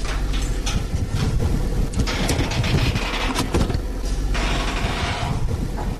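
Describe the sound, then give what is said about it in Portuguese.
A garbage truck collects rubbish at 9 pm at night in the Olene neighbourhood, north of the capital: a steady low engine rumble with clanking, hissing mechanical bursts and scraping noises rising and falling over a continuous loud drone, no one speaking. “À noite, às 21 horas, um caminhão de recolha de lixo faz o seu trabalho no bairro de Olene, mais a norte da capital.”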